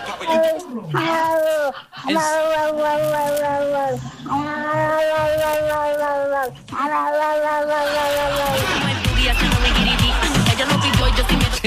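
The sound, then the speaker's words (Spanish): A cat lets out three long, drawn-out meows in quick succession, loud, each wavering like a yowl, followed by a noisier, rougher stretch of sound. “Y el otro participante es el gato.”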